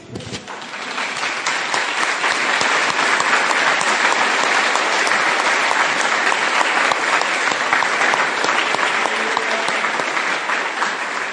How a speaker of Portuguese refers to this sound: Amém? Podemos aplaudi-lo?